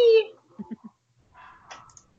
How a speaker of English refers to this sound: Apparently, Rachel's dogs have something to say, too, about this episode.